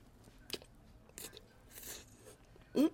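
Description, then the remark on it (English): Chewing a birthday-cake-flavored frosted ice cream cake with sprinkles: several sharp, crunchy bites spaced irregularly, soft mouth noises between them, and a louder crunch near the end; no one speaks. “You get a nice little crunch from the sprinkles.”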